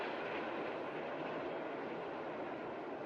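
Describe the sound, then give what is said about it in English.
A steady, dense roar of an elevated train rumbling past, broad and continuous with a faint rhythmic clatter, heard alone for the whole stretch. “The elevated train rumbles by.”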